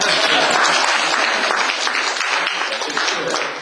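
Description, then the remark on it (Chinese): A crowd applauds steadily at an evening Christian testimony gathering, many hands clapping in a dense, crackling wash of sound that stays fairly loud throughout and fades slightly at the end. “那么你们没有掌声是不是？”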